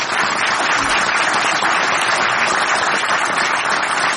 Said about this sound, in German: Ihr Applaus.